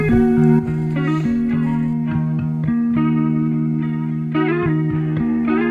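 The opening of the first track of a rock album plays loud and steady: distorted, effects-laden guitar chords ring over a sustained low bass while regular beats keep a moderate pulse, with no voices.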